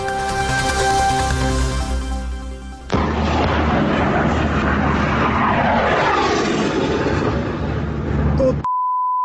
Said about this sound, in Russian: Самолеты над головой, прикинь, летают, истребители.